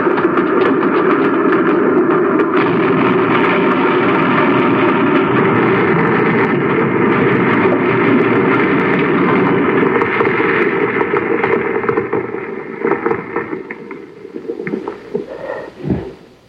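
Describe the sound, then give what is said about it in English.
A driverless railroad train rushes through a narrow tunnel in a loud, steady, rumbling roar that holds for about twelve seconds, then thins and wavers, with a few sharp rattles before it dies away. “Sure, it sounds like a railroad train.”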